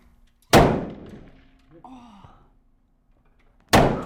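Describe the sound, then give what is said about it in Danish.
Two loud, sharp rifle shots fired at a shooting range, the first early and the second near the end, each a sudden blast with a rumbling decay, separated by a quiet stretch with a faint vocal sound. “Det der egentlig sker, når det er, du er eventuelt på jagt, det er, at når den har skudt, så op og tilbage.”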